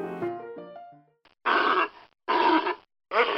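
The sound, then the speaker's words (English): A California sea lion grunts three times, loud and harsh, each call about half a second long with short gaps between. A brief run of descending musical tones plays first. “This is a sea lion, a California seal, or a sea lion.”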